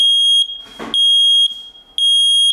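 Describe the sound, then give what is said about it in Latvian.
A smoke detector alarm sounds during a test, showing it works, blaring in loud, piercing high-pitched beeps: three long pulses with short gaps between them, and a brief rustling noise in the first pause. “Šis skaņas signāls, kas liek ausīm džingstēt, ir tas, kurš pasaka, ka es esmu kārtībā un sargāšu jūsu veselību un drošību.”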